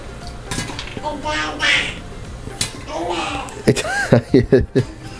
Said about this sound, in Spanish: Listo para que vean que es todo real. Empiezan a explotar los pochoclos. Es como cuando esperás la falla, ¿viste? En el coso.